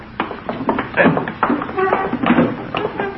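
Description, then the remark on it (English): An armchair being shoved back against a wall, a string of dull knocks, thumps and short scraping shuffles over about three seconds. “Move that armchair back against the wall.”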